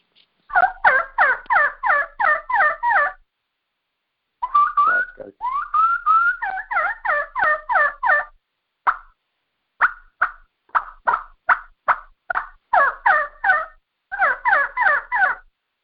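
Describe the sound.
Rapid, rattling turkey gobbles produced on the same game call also used for elk cow calls and bugles, coming in several bursts of quick, yodeling notes with short pauses and a few single clucks between. Loud and clear.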